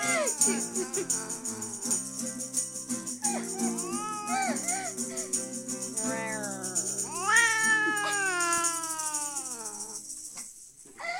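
A cat meows repeatedly, its cries rising and bending into drawn-out, wailing yowls, loud and insistent over a faint steady hum.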